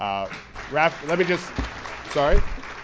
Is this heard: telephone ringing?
no